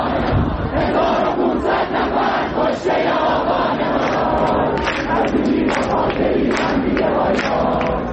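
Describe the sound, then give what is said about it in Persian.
A large crowd of student protesters at Amirkabir University, protesting death sentences for detainees, chants together in loud, steady unison, their massed voices rising and falling in a rhythmic Persian slogan with sharper shouts breaking through. “اینجا در دانشگاه امیرکبیر دانشجویان به صدور حکم اعدام برای برخی از بازداشته ها معترض بودند.”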